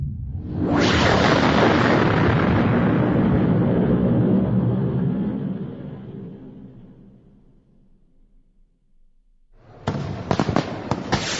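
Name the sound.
fireworks launching and bursting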